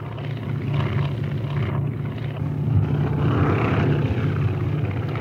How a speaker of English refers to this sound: It was 6:52 in the still, fog-haunted morning when the little plane lifted off the ground and turned eastward toward the ocean, toward Paris.